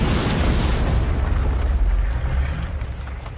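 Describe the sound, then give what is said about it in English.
The character Parasite, a heavy body, crashes to the ground with a deep, booming rumble, followed by a roaring wash of scattering debris and dust spraying everywhere that stays loud throughout, with no voices. “Parasite falls to the ground, spraying dust everywhere.”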